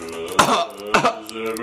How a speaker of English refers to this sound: He's coughing up blood. Oh my god. There's so much red.